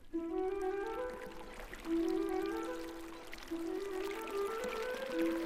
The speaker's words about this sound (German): Morgennebel lag über dem Tal, durch das mit leisem Plätschern der Fluss strömte.